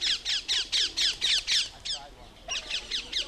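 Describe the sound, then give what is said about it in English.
A rapid series of loud, shrill squawks from feral parakeets, small green birds, in London repeats in a steady rhythm, about a dozen harsh high-pitched calls with a brief pause partway through before the squawking resumes. “A colony of parakeets has taken over the British capital, feral parakeets.”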